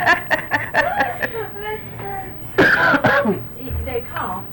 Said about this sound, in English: They cough.